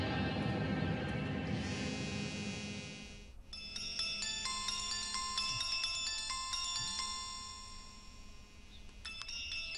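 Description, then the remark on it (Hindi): A phone ringtone plays a bright, repeating electronic melody of chiming tones, loud, preceded by a few seconds of low rumbling noise; no one speaks. It is an incoming call from a new boss. “मोहसिन उठिए, आपके नए बॉस का फोन है, उनको आपसे काम है”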